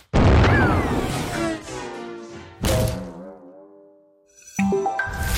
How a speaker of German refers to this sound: Nur Mut! Klettern Sie jetzt in das Kanonenrohr! Ich bin bereit. Feuer frei!